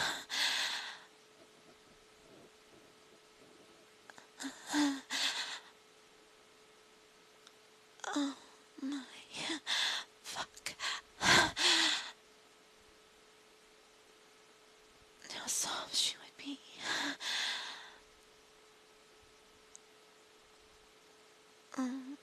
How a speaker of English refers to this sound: The sound of her moans and gasps in my ear.